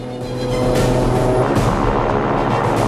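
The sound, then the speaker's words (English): A twin-propeller plane's engines roar loudly and steadily as the throttle is pushed forward and it speeds down the runway, a dense droning hum with a whooshing rush building over a few seconds, without voices. “The twin-propelled plane accelerates down the runway.”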